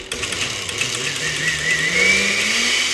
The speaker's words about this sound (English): Once the cauliflower chunks are nice and soft, Carla ladles everything into a blender and pulses it to a silky smooth texture.